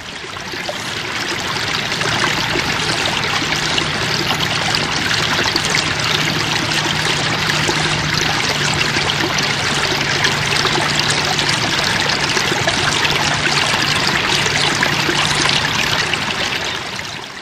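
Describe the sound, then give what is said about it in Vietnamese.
A babbling stream trickles steadily over a large rock covered in small plants, a continuous burble and splash of running water with no pauses and no voices. “Một con suối róc rách chảy qua một tảng đá to, phủ đầy cây nhỏ, buông xuống thành một thác hoa suối theo dòng nước.”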